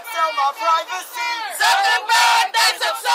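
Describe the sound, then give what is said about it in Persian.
A crowd of protesters outside Congress, demanding Facebook reform, chants and shouts together in loud, rhythmic bursts, many voices rising and falling in unison with brief pauses between phrases. “در خارج از امارت کنگرس تقاضا برای اصلاح فیسبوک جریان داشت.”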